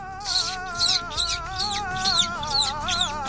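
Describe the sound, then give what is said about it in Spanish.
Squeaky sucked-in kissing sounds made with the mouth imitate goldfinch chirps, about eight quick chirps in a steady rhythm over a wavering background tone. “ahí va la explicación de cómo se hacen los besos de jilguero.”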